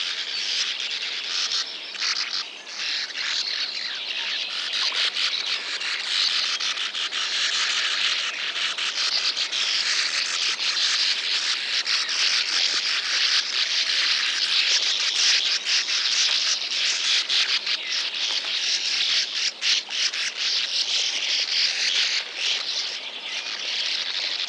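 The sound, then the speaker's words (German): A dense, continuous chorus of high-pitched calls of sand martins, sparrow-sized birds of open country that dig nest burrows in sandy cliffs: many dry twittering chirps overlapping at a steady, fairly loud level for the whole stretch, with no voices. “die Uferschwalbe, Bild Nummer 16.”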